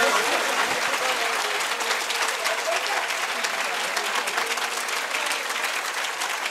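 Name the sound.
clapping applause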